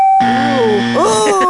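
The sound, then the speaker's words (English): A bright bell ding rings out and sustains steadily, while a voice-like wavering tone slides and warbles over it for the rest of the moment. “So I'm going to give her a bell dinger.”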